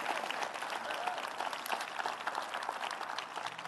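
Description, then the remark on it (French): At a church service in Quebec, an audience applauds steadily for several seconds, a dense, even wash of many hands clapping at once with no pauses or voices standing out. “Au nom de Jésus, pouvez-vous à l'avance applaudir au visage de l'ennemi ce qu'il va faire?”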